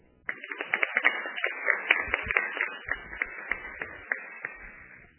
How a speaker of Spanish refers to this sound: Bienvenida, senadora. Les pido, por favor, un aplauso.